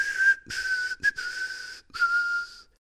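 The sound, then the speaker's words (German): A person whistles a short, cheerful tune in a few clear phrases with brief breaks between them, fairly loud, with no talking. “Der Hase hoppelte fröhlich davon und pfiff ein kleines Lied dabei.”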